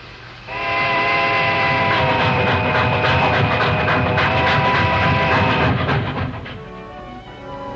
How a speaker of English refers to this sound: There's a fast eastbound freight pulling out at noon. We can hop it if you still want to go home.